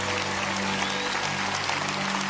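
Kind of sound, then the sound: crowd, audience cheering and applauding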